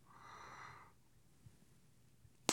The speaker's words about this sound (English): Hey, stop snoring so loud over there. You're ruining this.